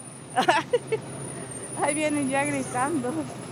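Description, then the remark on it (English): A school bus bringing children home from school rumbles low as it pulls up to a bus stop, with a few short hissing bursts early on, then voices talk over the steady engine drone. “There it is. There's the bus, she says.”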